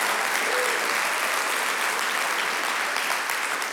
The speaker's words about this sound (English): The thing that I love about my wife, hold up, I'm gonna let y'all cheer real loud for a second.